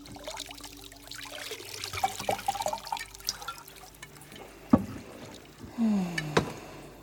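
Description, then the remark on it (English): Unguents pour and trickle into a hot bath, with soft splashes, drips and a couple of hollow knocks, with no one speaking. “More unguents. Pour it in here.”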